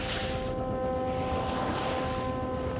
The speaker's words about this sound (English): It's a wonder this bathtub-sized vessel doesn't capsize as it bobs madly in the wake of giant oil tankers and freighters all steaming north of the Bosphorus.